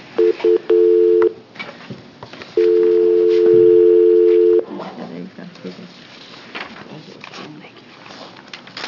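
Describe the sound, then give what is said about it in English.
A conference phone line gives a few quick electronic beeps, then a longer steady two-second tone, fairly loud, as the phone line is turned off. Afterward only faint room noise and murmuring voices remain. “Is anybody on the phone then? No. Okay, then I'll turn this off.”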